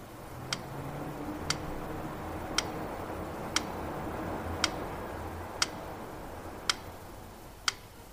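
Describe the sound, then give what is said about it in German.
An analog alarm clock ticks steadily in a darkened bedroom, about once per second, eight crisp clicks over a faint low hum. No one speaks. “Jetzt hörte er seinen Wecker ticken.”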